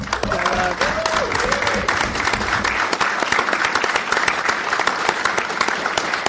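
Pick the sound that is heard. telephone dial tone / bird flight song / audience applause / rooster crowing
audience applause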